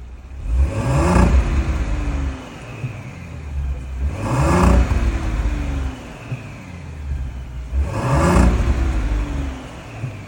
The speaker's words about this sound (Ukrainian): і ви бачите Audi Q8, 3 літра турбобензин. Тут ми зробили Stage 2, Downpipe, спортивний каталізатор, виготовили та встановили регульований вихлоп і хочемо вам показати результат, як вона звучить. Зараз ми заслоночки закриваємо і слухаємо тихий контур.